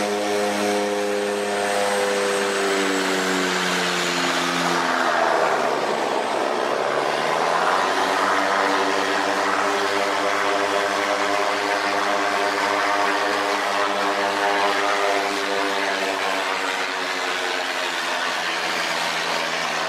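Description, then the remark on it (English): A propeller aeroplane taxis and turns around on the mission airstrip at Tekken in West Sepik (Sandaun) province, its steady droning engine hum dipping in pitch midway as it turns, then settling back into a constant loud buzz. No voices. “Look for the green building as the aeroplane turns around.”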